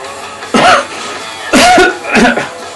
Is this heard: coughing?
yes